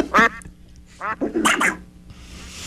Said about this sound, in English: Yeah, you heard the duck.